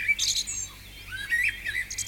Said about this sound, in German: Ich höre den Wald predigen. Die Vögel singen mir davon, dass sie dankbar sind fürs Leben.